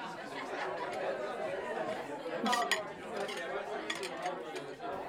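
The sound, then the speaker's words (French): Several people chat over coffee one floor up in a large house at 18 avenue de la Gare, La Chaise-Dieu. They talk at once in an indistinct, steady murmur, with occasional light clinks of cups, dishes and cutlery ringing out over the conversation. “Ou si je monte les marches d'un étage, il y en a d'autres qui papotent autour d'un café.”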